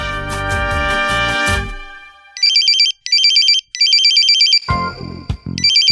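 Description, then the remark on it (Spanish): A telephone rings loudly: a short burst of melodic electronic tones, then a series of rapid warbling trill bursts repeating with brief gaps. No one speaks. “te necesita el teléfono.”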